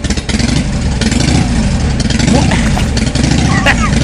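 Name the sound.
motorcycle engine revving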